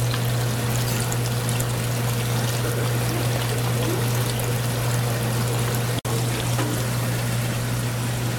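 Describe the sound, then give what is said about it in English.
Water pours in a steady, continuous rush into worm bedding, with a low hum running underneath and a brief cut near the end. No one speaks. “Otherwise, you gotta like wait overnight when you put water in it.”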